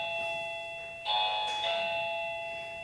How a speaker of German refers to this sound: Warum klingelt das denn jetzt nochmal? Ja, ich habe keinen bestellt.